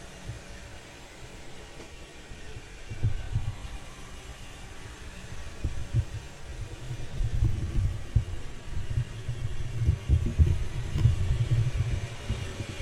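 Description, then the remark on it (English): A robot vacuum cleaner drones away under a bed, moving around on its two servo motors, its muffled motor hum steady beneath low, uneven rumbling and soft bumps that swell louder partway through. No one speaks. “So it's using both its vacuum component and the robot component to kind of do things here.”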